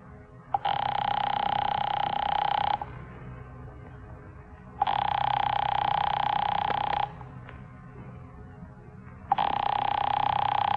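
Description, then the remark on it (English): A telephone rings three times in long, steady bursts of about two seconds each, separated by pauses, loud over a low background hum, with no one speaking. “won't answer. It's ringing.”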